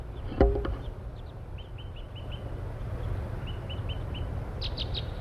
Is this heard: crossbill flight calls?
yes